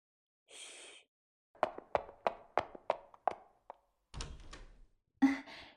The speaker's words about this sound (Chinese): 那你等一下啊，我过来给你开门。